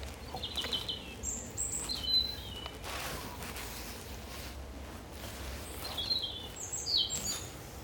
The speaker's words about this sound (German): Das Zwitschern ist von Rotkehlchen.